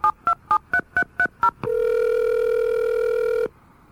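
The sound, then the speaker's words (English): An emergency autodialer on the NU6P repeater rapidly keys seven DTMF dialing tones in an even, quick rhythm, then a loud, steady buzzing tone holds for about two seconds before cutting off, signalling a West Valley fire. No voices. “This is NU6P emergency auto dial.”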